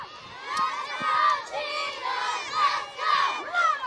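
A crowd of primary school children shouting and cheering outdoors on a school playground during field day, trying to pass eggs to each other on paper plates, their high voices overlapping in a continuous lively din with occasional louder squeals rising above it.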